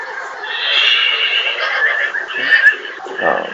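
horses neighing and whinnying

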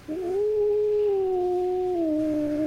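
cat yowling

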